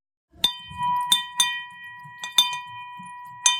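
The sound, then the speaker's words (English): A handheld bell, the 'money bell' at Hudson Kitchen that is rung when someone is celebrating something, rings repeatedly in quick irregular shakes, about six sharp clangs with a sustained metallic tone hanging between them, loud, with faint background murmur. “So at Hudson Kitchen, we have what we call a money bell that we ring when someone's celebrating something.”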